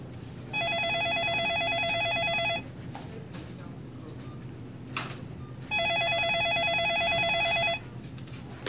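A telephone rings twice, each ring a sustained electronic trill lasting about two seconds, separated by a pause, with low background murmur and faint room noise throughout.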